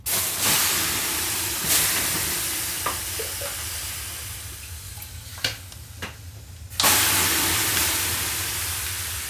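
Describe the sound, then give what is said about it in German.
Bathers pour water onto hot stones in a Finnish sauna to make löyli. It hits with a loud, broad steam hiss that fades, then a few sharp crackles and splashes, then a second strong burst of hissing that slowly dies away. “Den Aufguss, Löyli, machen die Saunabesucher selbst.”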